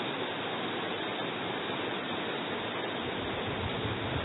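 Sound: heavy rain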